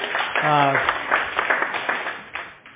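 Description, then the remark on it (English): A short burst of scattered audience applause, many hands clapping unevenly for a few seconds, opening with a brief sustained vocal sound before the clapping gradually thins out. “We can clap for that.”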